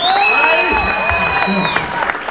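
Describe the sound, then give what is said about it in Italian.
A crowd at an election campaign event applauds loudly and cheers for a candidate, with steady dense clapping, shouts and whoops running through the whole clip at a constant, high level. “E allora, se è di Zuni e se è un vostro candidato, voglio sentire l'applauso più forte.”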